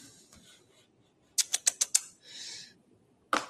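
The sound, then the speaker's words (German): Five quick, sharp taps on an iPad screen in close succession while restarting it to get the stylus working, then a short soft swish and one more tap. Fairly crisp, with no one talking. “Schon mal kurz neu starten hier die Kiste, damit wir einen Stift haben.”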